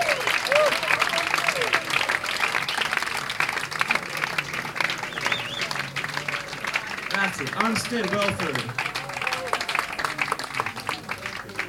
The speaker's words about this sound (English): Really, thanks for clapping for him.